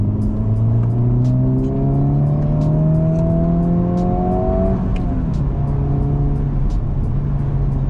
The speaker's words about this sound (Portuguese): E essa resposta do motor é demais. É muito bom. Muito bom mesmo. Acelerando então, melhor ainda.